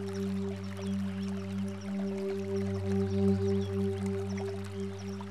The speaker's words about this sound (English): Close your eyes and imagine you are sitting beside a gently running stream. Become aware of the sound of the water running.